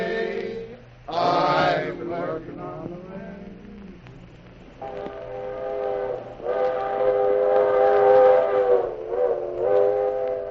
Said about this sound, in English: Captain Bill and Corporal Chaudron found the railroad yard in more than a mess. It was a riot. Congestion on every track, and only one tiny locomotive to do the work.